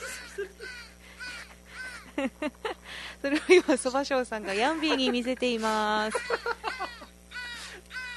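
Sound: crows cawing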